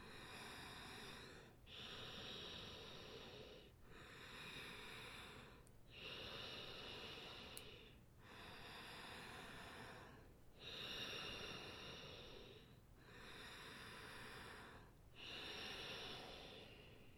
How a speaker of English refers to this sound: through the nose, you're going to breathe in and immediately breathe out. So it sounds like this. So just joining me for a few rounds, continuous breathing in through the nose, out through the nose in a circle.